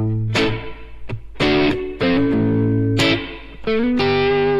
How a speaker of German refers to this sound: Das ist jetzt auch Hall vorm Amp. Ich drehe mal den Mix ein bisschen auf, um es deutlicher zu machen. Auch das Phänomen, dass wenn ich spiele, dass man den Hall dann nicht hört. Wenn ich dann aufhöre. Das ist das typische Feder halt.